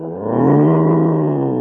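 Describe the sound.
A person growls out a long, loud imitation of a tiger's roar, one sustained rumbling snarl lasting under two seconds with no other talking.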